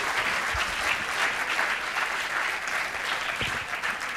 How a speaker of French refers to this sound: Seigneur, c'est toi que nous applaudissons, parce que c'est toi notre sauveur, c'est toi notre maître, c'est toi notre modèle.